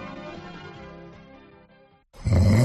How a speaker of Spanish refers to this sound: Todas las noches igual. Basta ya de ronquidos.